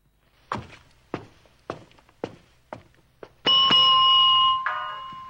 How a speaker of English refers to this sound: The receptionist rings the bell.